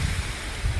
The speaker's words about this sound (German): Ja, ihr hört im Hintergrund einen Bach rauschen. Und ich bin heute im Wald unterwegs.